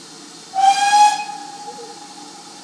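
A steam locomotive, on a train whose next stop is Totnes, lets out a single loud, bright whistle blast lasting under a second, over a steady hiss of escaping steam that continues as the whistle fades.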